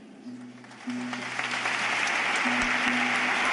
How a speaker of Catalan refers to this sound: Joves de la diòcesi de Tortosa que d'alguna manera fan ara de portaveus i entre aplaudiments